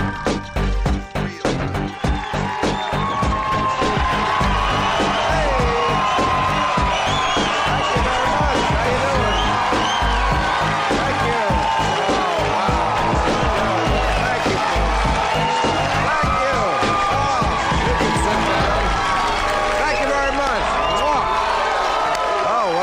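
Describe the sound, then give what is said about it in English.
A large studio audience of the HBO late night show Real Time with Bill Maher cheers and whoops loudly and continuously, with scattered clapping and shouted voices blending into a dense, sustained roar of excitement. “Sounds like a hot crowd, I can tell.”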